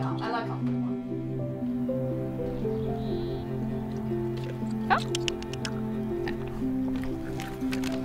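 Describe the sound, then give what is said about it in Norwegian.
Someone blows bubbles into water, making a steady, burbling gurgle with a hummed, voice-like tone, broken by small wet pops and drips. “Du bobler bare.”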